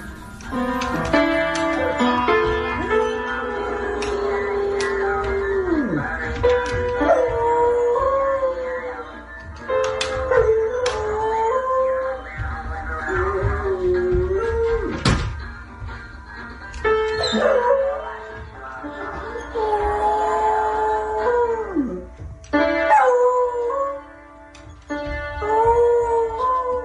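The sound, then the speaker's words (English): A dog named Buddy, standing up at a piano, howls in long, wavering cries, alternating with clumsy piano notes as he pushes the keys between howls, fairly loud throughout, with occasional yips and faint background voices. “He pushes the keys and then howls. And then pushes the keys and howls.”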